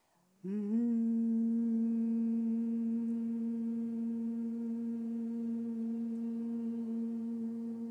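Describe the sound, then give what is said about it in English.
A group of people at a worship service, hands lifted, hums together on one steady, sustained low note, starting abruptly after a brief silence and holding evenly loud throughout, with no speech. “So I want everybody to get very quiet and deep within yourself. Just begin to hum.”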